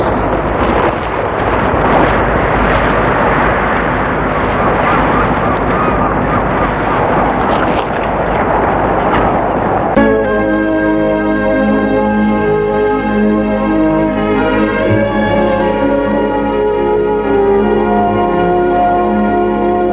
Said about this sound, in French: Le vent fait rage, la mer est houleuse, le ciel est noir.